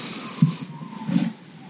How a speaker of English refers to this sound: Carries a long way, doesn't it? Yep. Which is okay because now a bus is going by. Lordy. This week's episode is brought to you by the traffic outside …'s window.